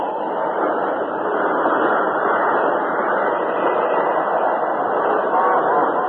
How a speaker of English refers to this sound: The work train had run through the short canyon and out onto the curving track beyond before the lever responded.